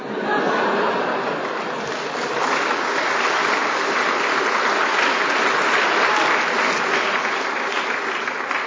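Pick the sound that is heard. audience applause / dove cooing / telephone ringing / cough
audience applause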